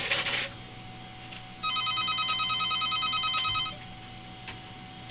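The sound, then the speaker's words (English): A telephone rings with a rapid electronic warble for an incoming call, one burst lasting about two seconds, clear against a quiet hum with no talking. “Hey, folks, how about that? Another call.”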